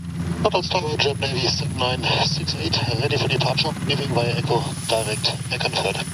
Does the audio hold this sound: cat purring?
no